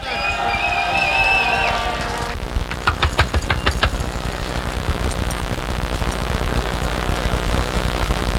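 A brief tonal, horn-like sound gives way to a crowd's applause: a burst of sharp claps that settles into a steady, dense wash of clapping lasting several seconds.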